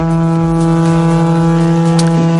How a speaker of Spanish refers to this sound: Y este es el sonido que nos llega de Moncloa. Es el sonido de la trompeta que llama a la meditación.